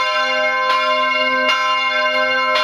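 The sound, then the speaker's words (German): Loud bells of Graz Cathedral in Graz, Austria, ring with rich, sustained overtones, new strikes landing every second or so over a continuous wash of ringing. No voices are heard. “Da hört sich das Glockengeläut schon gleich deutlich pompöser an.”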